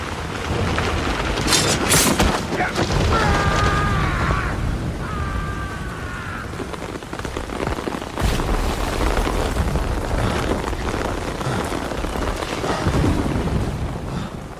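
A thunderstorm with a steady roar of heavy rain and deep rumbling thunder throughout, loud, with a couple of brief howling, whistle-like tones early on.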